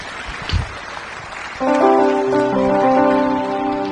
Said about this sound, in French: Amen. Nous y croyons, c'est bonheur, nous applaudissons pour Jésus-Christ.